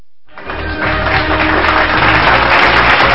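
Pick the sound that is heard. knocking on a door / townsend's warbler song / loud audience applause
loud audience applause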